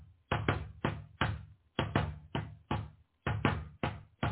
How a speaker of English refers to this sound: Listen to my heartbeat.